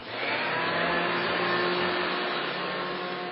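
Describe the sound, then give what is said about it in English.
A vacuum cleaner runs steadily and loudly, a constant whooshing motor roar with a faint high whine, unchanging from start to finish, with no voices. “And my friend and I were maids together, and We didn't really like to clean, so we would go into the rooms and we would turn the vacuum on so it sounded like we were vacuuming.”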